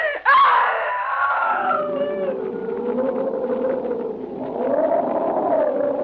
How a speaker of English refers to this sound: That was the night, John, that I screamed.